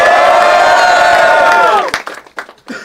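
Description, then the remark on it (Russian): A loud crowd at an MC battle roars with sustained cheering and shouting before the first round, a dense wall of voices that holds steady, then breaks off into a few scattered whoops and yells. “Пошумим, блядь!”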